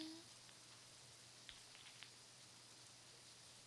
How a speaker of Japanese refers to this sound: しとしとの雨。毎日暑いですから、いい打ち水ですね。